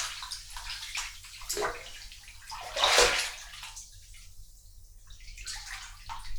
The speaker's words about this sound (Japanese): じゃあもうさあ、今のお風呂に入ったよ。